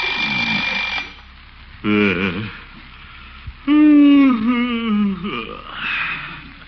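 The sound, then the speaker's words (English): An alarm clock rings loudly for about a second early in the morning in the town of Summerfield, then stops. A man follows with sleepy groans and drawn-out yawning vocal sounds. “Oh, alarm.”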